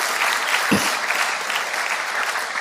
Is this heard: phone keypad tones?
no